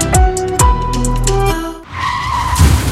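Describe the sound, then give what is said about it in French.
A car's tires skid loudly in a sustained screech for nearly two seconds as the driver brakes too late, followed by the rumble of a vehicle's motor; no voices are heard. “Allô frérot, j'ai freiné trop tard, c'est la cata.”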